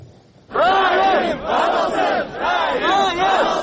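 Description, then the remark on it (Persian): A loud protest crowd outside the Kyrgyz parliament in Bishkek, demanding the jailing of a senior customs official, shouts and chants in rising, overlapping waves, many voices roaring together in repeated surges with brief dips between them. “Таҷаммугарон баъд аз шӯрпартоӣ ва ҷамъоварии имзо пароканда шуданд.”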